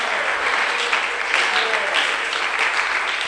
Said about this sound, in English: Oh, clap, clap, clap, clap.